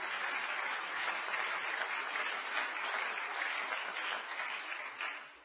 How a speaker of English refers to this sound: And I give honor to all of you men, leaders among us. Why don't you give yourself a hand clap?